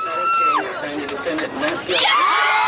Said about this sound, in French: Et à chaque fois que le mot est prononcé à l'intérieur du tribunal, à l'extérieur c'est une explosion de joie chez les femmes.